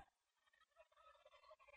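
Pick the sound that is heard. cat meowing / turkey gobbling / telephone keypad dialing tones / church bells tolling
turkey gobbling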